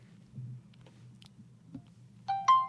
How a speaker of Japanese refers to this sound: 聞こえるかな。 はい。無料の電話の音が入っております ね、 ですね。